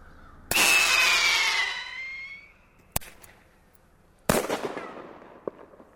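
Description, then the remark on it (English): A pyrotechnic launcher loaded with blanks fires fireworks to scare crows from trees: a sharp bang releases a shrill whistling screech that fades over a couple of seconds, then a short pop and another loud, echoing blast. No one speaks. “It's a pyrotechnic launcher. He loads it with blanks that will set off the fireworks, then the fireworks themselves.”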